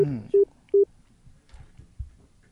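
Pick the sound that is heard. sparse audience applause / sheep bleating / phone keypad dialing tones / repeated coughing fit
phone keypad dialing tones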